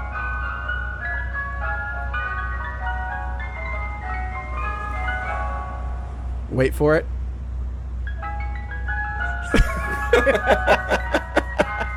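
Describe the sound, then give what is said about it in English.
Two ice cream trucks on a corner in South Philadelphia, about 30 feet apart, play their jingles over each other at the same time, their tinny melodies clashing, with a low engine rumble underneath, a few brief bursts of noise, and a voice speaking briefly. “And of course, two South Philadelphia ice cream trucks engaged in what appears to be a turf war.”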